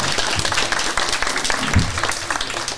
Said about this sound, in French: Trop fort, ces enfants de Paul Langevin. Alors voilà, voilà, on peut les applaudir. Effectivement.